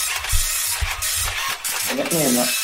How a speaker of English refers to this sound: Printing it off. Just printing the scores off now. Slow printer, I'm afraid, so just bear with us. Any moment now. Here we go.